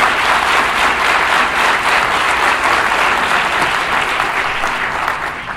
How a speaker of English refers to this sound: I always have to start off by saying I really appreciate the applause, the love that you guys are expressing. But from this point on, if anyone applauds, we're going to have you removed from the auditorium. I'm not here for applause.